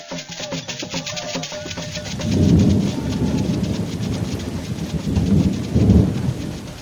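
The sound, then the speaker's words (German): A heavy monsoon thunderstorm downpour in the West African tropics after a long dry spell: dense, steady rain hisses throughout while deep rolls of thunder swell up twice, loud, with no voices. “Nach langer Trockenheit öffnen sich weit die Himmelsschleusen und heftige Regenfälle stürzen auf das”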